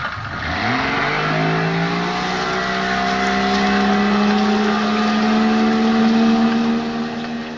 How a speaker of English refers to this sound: The pilot guns the engines in reverse, and the boat backs off the beach.